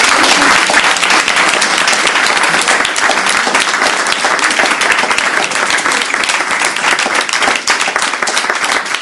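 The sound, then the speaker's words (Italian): Sustained audience applause, a dense, steady wash of many hands clapping at an even loudness for about nine seconds, with no voices standing out. “Sono molto allergico agli applausi.”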